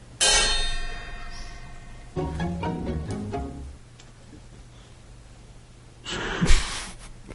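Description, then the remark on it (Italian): A loud bell strikes once and rings out with a long, shimmering decay, followed by a quick run of several lighter chimes, then a short breathy burst near the end. “Ah, vi faccio una campana che so che vi piace.”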